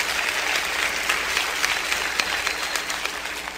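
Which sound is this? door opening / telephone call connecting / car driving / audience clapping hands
audience clapping hands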